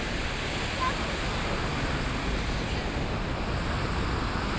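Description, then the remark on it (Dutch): A steady, unbroken rush of sea water washing around a ship at sea, loud, with a wind-like hiss over it and no separate wave breaks standing out. “Die golven in het Marokkaans. Amouaj.”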